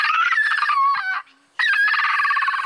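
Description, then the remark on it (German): An excited woolly monkey gives loud, shrill, rapidly warbling calls in two long bursts split by a brief pause, the piercing trills wavering up and down in pitch. “Hör mal, das hier ist auch ein Wollaffe.”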